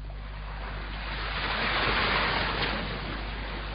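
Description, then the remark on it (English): Sea waves wash steadily onto a sandy beach under a warm sun, a broad hissing surf that swells to a louder rush midway and then eases back, with no voices. “Remember how you were always going on about your dream of lying on a sandy beach under a warm sun?”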